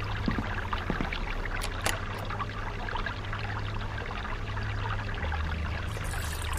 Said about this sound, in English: give me some kind of soothing noise. A creek. Good. Babbling brook.